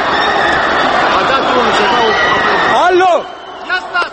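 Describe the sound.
A large crowd at a rally in Bucharest, Romania, on 22 December, gathered by the authorities in support of the dictators, roars in a dense, continuous uproar of shouting voices as it turns against them, then the noise cuts off abruptly, leaving a few scattered calls.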